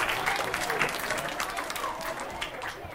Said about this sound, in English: Thank you, the 7s. A round of applause for the 7s.